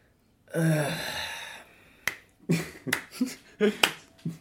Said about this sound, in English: That, by the way, listeners, was me sighing and slow clapping.